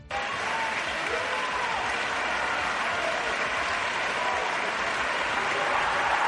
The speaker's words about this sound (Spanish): Esto era en el interior del Palacio de Congresos. Más de un minuto duraron los aplausos.